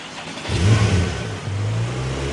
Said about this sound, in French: Ah, ce petit bruit de moteur.